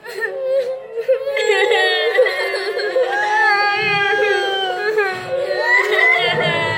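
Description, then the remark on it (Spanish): Frightened children crying and whimpering together, their high, wavering wails rising and falling without pause, fairly loud for the whole stretch. “Los chicos, cada vez más asustados, se abrazaban. Algunos lloraban.”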